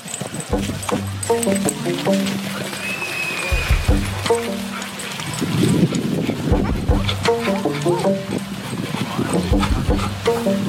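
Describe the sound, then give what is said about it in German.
Dogs romp and play outdoors on the dog meadow of Nordpark in autumn, with bursts of excited barks and yelps, scuffling and thudding paws, amid a busy open-air background. “Bei unserer ersten Besichtigung der Hundewiese im herbstlichen Nordpark kann er direkt mittoben.”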